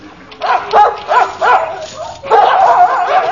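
Several dogs in dog pens bark and yelp in a noisy chorus, a run of sharp barks first, then a steadier overlapping din of yapping and whining that carries on to the end.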